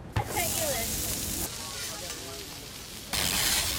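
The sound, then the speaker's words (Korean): Steady, crackling sizzle of food frying on a hot food truck grill at a farmers market in downtown Baltimore, loud, with faint background chatter and a brief clank near the start. “지글지글 음식이 요리되는 푸드트럭 옆에 자리 잡은 콘서트 트럭.”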